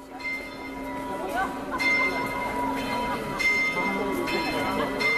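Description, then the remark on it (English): Church bells ring out at midday from the belfry of the 600-year-old Church of the Maltese Order on an exclusive shopping street near St. Stephen's Cathedral, in a steady, overlapping peal, fresh strikes landing every second or so while the bright tones hang and blend. The ringing is fairly loud against a low rumbling background. “Stephen's Cathedral, another set of bells rings out from the belfry of the 600-year-old Church of the Maltese Order.”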